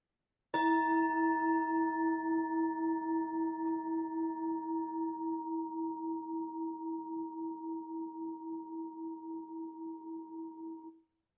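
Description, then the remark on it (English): A bell is struck once, giving a clear, mid-pitched ring with bright overtones that hums with a gentle wavering pulse as it slowly fades over about ten seconds, with no voices. “We're going to go ahead and ring the bell.”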